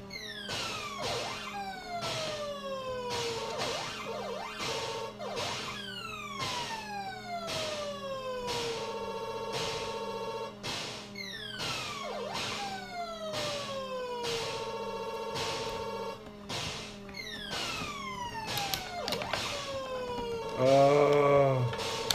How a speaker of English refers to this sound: Sounds like an old phone ringing. Like some kind of Motorola chip.